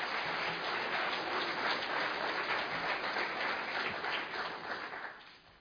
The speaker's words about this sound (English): So again, can we give a round of applause to everyone involved this morning?